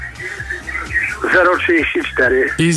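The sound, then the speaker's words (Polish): A caller's own radio plays in the background of a phone call to Muzyczne Radio. Speech and a steady band of music-like tones run underneath, thin and slightly echoey as if picked up through the handset. “Prosimy, jak dzwonicie tutaj do nas, do Muzycznego Radia, warto jednak ściszyć radio.”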